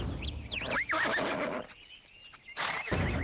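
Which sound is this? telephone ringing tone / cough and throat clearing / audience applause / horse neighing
horse neighing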